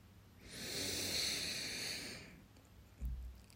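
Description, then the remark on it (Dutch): A long, forceful sniff drawn in through the nose, a broad breathy hiss lasting nearly two seconds, followed by a soft low exhale or thump near the end. Fairly loud, with no talking. “Doordat je opsnuift, en vooral als je fanatiek snuift, ontstaat er een lichte spanning in je borstkas, in je borstgebied.”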